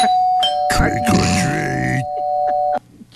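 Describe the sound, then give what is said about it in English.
An electronic doorbell rings with a steady, sustained chime tone lasting nearly three seconds before cutting off, while a voice briefly sounds over the middle of it. “I'm not even going to answer the door.”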